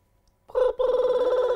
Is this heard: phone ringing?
yes